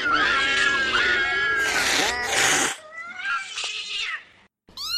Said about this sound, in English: The pussy box, if you're wondering, is a refrigerator box with holes in it filled with feral cats. Then water is sprayed into it.